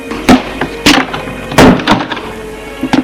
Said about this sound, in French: Elle ferme la porte.